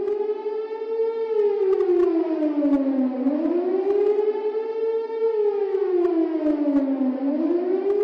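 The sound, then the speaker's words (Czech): An air raid siren wails steadily and loudly, its pitch sliding up and down in slow repeating sweeps about every four seconds. No voices are heard. “Ja sam sve vreme kad god krenu sirene mislila da to u stvari dolazi iz te fontane, zato što je ta fontana imala neki oblik sirene.”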